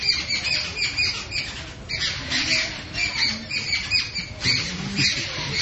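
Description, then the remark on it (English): A flock of birds squawks in agitated, overlapping bursts as a cat approaches, harsh high-pitched calls repeating continuously and loudly with no pause, like a chorus of alarm. “Because the cat's coming, so now they're all freaked out.”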